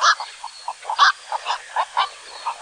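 A black-crowned night heron gives a rapid series of loud, hoarse squawks, harsh, with brief gaps between the calls and no other voices.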